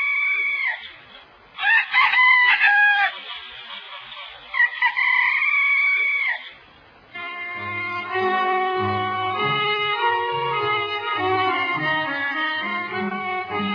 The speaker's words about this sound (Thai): ในที่สุดเวลาก็มาถึงท้องฟ้าเริ่มสางเสียงไก่ขันรับอรุณแว่วมาตามสายลม